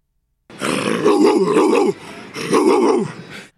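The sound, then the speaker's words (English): A man imitates a dog with two loud, drawn-out growling whines, his voice wavering in pitch, separated by a brief pause. “Like, remarkable how he channels an actual dog.”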